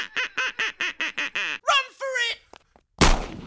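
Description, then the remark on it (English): A duck quacks in a rapid, even run of about seven loud calls, then gives two longer, raspier quacks, followed by a brief pause and a sudden sharp, noisy burst. “If they don't tell their mates, the duck gets it.”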